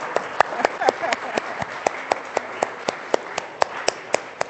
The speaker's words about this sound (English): Here we go, Christmas jumpers. Well done. Well done. Brilliant. Give them a clap. Well done.